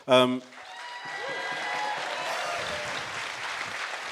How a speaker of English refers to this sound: It was... the applause for the podcast was so much more muted than the applause for